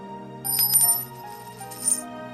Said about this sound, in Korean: 그런데 토큰 떨어지는 소리가 뭔가 달랐다. 토큰이 아니라 반지였고